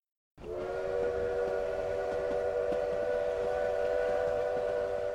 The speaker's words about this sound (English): Then ahead and to his left came the whistle of the train.